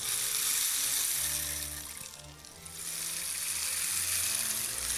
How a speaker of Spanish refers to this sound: Mientras tanto me despido con este sonidito del palo de lluvia.